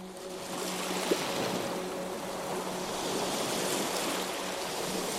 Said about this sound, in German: Die Wellen rollen behutsam auf und ab. Auf und ab.